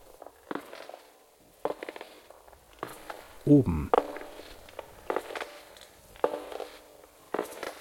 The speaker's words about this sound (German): Langsame Schritte. Langsame, feuchte Schritte. Langsame, feuchte, klebrige Schritte, die lauter werden. Die eine Stufe nach der anderen bewältigen. Abwärts.